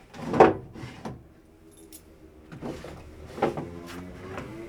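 Irregular clattering and scraping as a drawer or sliding board inside a piece of furniture is handled, checked for hidden compartments or a false bottom, with a sharp knock near the start and several softer rattles and slides following, no voices.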